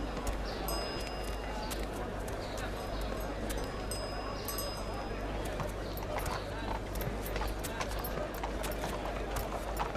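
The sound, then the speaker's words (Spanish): Horse hooves clip-clop in an uneven rhythm, a horse being presented as a gift, mixed into a busy outdoor scene with a steady low hum and murmuring voices in the background. “Acepta este caballo de parte de tu novia Raquel”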